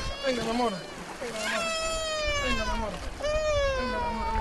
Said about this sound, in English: With the main border bridge closed, these Colombians are crossing the knee-deep Táchira River to get back to their homeland. The rock bottom is slippery, so Colombian police officers wade in to lend a hand.